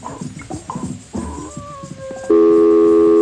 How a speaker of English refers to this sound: Phone's ringing already. So if you can run real fast. Please, got the phone's lit up already.